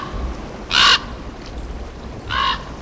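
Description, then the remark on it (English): Two loud, harsh croaking calls from a raven, spaced about a second and a half apart, ringing out clearly over a soft steady background hiss like light rain. “Sounds of the birds featured on Bird Note, including this crafty raven, come from the Macaulay Library at the Cornell Lab of Ornithology.”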